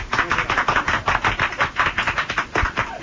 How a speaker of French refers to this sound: On les applaudit.